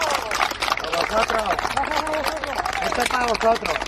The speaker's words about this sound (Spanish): Ese aplauso de las 8 de la tarde va a resonar siempre como un eco en nuestra memoria.